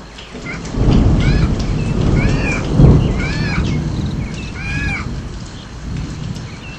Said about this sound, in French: Dans la nature, tout était calme et dans le ciel, un énorme orage se préparait.